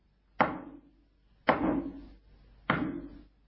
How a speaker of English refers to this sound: And friends, as clearly as I knock here, he's knocking on your life's door.